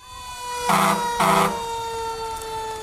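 A fire truck's siren wails steadily, broken by two short, loud honking blasts in quick succession, during the Fourth of July parade down Front Street in Kotzebue; no one speaks.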